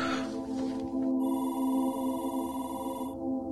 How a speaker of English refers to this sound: It's about 1 o'clock. Classroom phone rings.